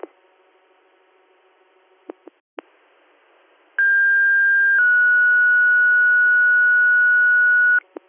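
Fire dispatch paging alert tones, sounded again for a call still needing a driver, a CO detector activation: a loud, steady high tone held for about a second, then a slightly lower tone sustained for several seconds, preceded by radio clicks and faint hum, with no talking.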